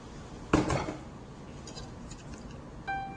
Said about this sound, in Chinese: 这个时候呢，我们的这个味噌呢，要加一点点的这个水啊，把它调匀，哈。